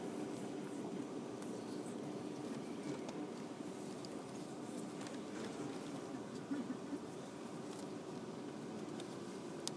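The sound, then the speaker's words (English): Steady low rumble inside a moving train carriage, a continuous even drone with faint rattles and murmurs, no clear talk, fairly quiet throughout. “So quiet, aren't they, on these trains, apart from that bloke who was on the phone.”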